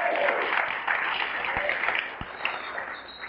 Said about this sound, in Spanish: Ahí aplaudan porque no tengo nada más, llegué hasta ahí.